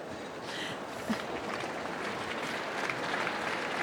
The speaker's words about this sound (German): Uiuiui, tosender Applaus.